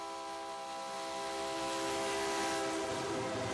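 A freight train of the kind called the 'train of death', which carries Latin American migrants across Mexico, rolls steadily along the rails, a loud continuous rumble with sustained metallic tones and squealing overtones, without any talking.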